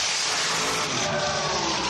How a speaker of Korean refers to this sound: 저희가 소유하고 있는 쿼터 마일 드래그 스트립이 오늘 경주를 할 것인데 저희는 연중 내내 드래그 스트립에서 매 주말 경주를 하고 있습니다. 공기를 가르는 폭발적이고 우렁찬 자동차 엔진 소리를 직접 가까이서 들으니 더 신기했습니다.